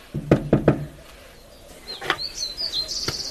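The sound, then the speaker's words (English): Three sharp knocks on a house door in Shiloh, Israel, then a short pause before high, bright bird chirps and tweets ring out outdoors for the last second or so, with no one talking. “Wherever you go in this country, like whatever the passions, the birds sing on.”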